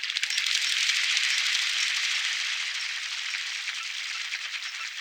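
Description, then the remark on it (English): Coots try to take flight with a steady, rapid patter of flapping wings and lobed toes slapping the surface of the water. The dense, splashy rustle holds for several seconds, with no voices. “There are some now, trying to take flight, flapping their wings and slapping their lobed toes against the surface of the water.”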